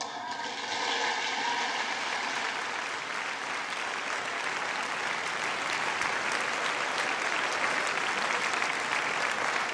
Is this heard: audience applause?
yes